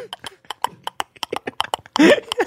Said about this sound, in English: Before they do the event, the horse takes a trot around the arena.